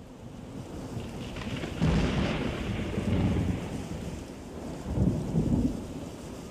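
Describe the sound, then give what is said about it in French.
A thunderstorm with steady rain hissing throughout and deep rumbles of thunder rolling in twice, swelling loudly then fading, with no voices present. “Il y a de l'orage! Oh, de l'orage! J'ai peur de l'orage!”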